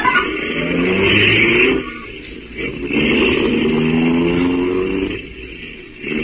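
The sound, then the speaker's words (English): A car engine revs and pulls away, its pitch climbing as it accelerates, dips briefly, then surges again and holds steady, loud, with no talking. “And we drove off.”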